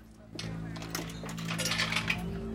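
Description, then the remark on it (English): Several coins clink and rattle into the slot of a cigarette vending machine in a pub, a quick run of bright metallic taps over a steady low hum and faint murmur of voices. “He steps out of the pub's back room, then goes to put some coins in the fag machine.”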